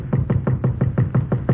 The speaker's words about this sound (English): Then 3 years go by, and one night I am sitting in my hotel room and I hear a knocking on my door.